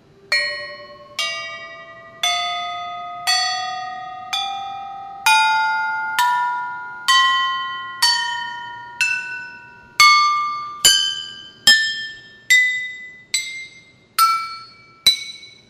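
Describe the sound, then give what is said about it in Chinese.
A yunluo, a large percussion instrument made of small gongs of different pitches arranged together, played as a demonstration: struck one after another in a steady rising scale, about sixteen bright ringing notes, each shimmering briefly before the next, quickening slightly toward the end, with no voices. “这个云锣呢，它是由长得像小锣一样的不同音高的锣去把它排列组成的一个乐器，叫做云锣。”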